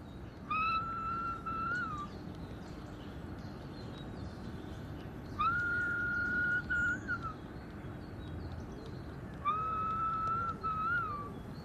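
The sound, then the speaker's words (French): Three separate whistled phrases of a short tune, each about two seconds long with a pause between, clear over a steady background hiss. “Diffuser sur haut-parleur son sifflement caractéristique aux oiseaux des environs.”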